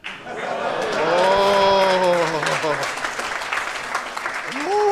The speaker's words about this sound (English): I am so confused right now. People are just clapping after sentences.